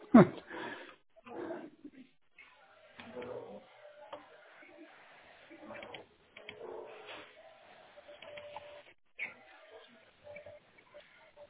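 Dogs bark in scattered, muffled bursts through a narrow, phone-like channel, some sharper yelps among them, with indistinct murmuring in the background between barks.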